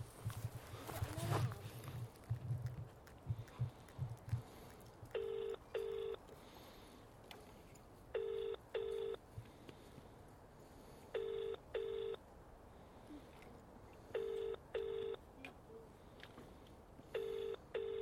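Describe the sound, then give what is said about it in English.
A FaceTime video call rings out: five pairs of bright, chiming electronic tones repeat steadily about every three seconds, following a brief low rumbling sound at the start. “Did you try to ring on FaceTime?”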